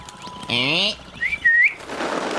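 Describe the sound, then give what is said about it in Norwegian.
A person whistles a short, rising-and-falling tune in two quick bursts to send owls away, fairly loud, with a brief harsh tone before it and a soft hiss of noise afterward. “Ja, det er bare egentlig bare til å plystre, så går de vekk.”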